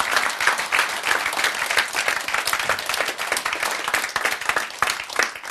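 A crowd applauds steadily, many hands clapping in a dense, even wash of sound at moderate loudness that continues without pause.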